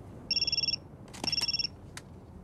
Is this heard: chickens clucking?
no